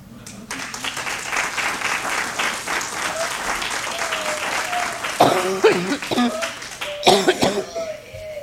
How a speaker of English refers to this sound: All this coughing and hacking, and any of you have heard me before know I have no voice here today. I have mold in my lungs.